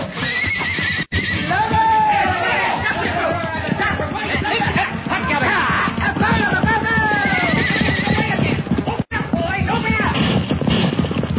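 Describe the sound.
Horses whinny and neigh repeatedly over a dense, continuous rumble of galloping hooves in the dark, with excited voices shouting in the background throughout.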